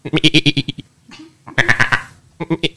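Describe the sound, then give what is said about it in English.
A person imitates a goat, letting out three loud, wavering bleats in quick pulsing bursts separated by short pauses. “That's my baby. He's a goat child.”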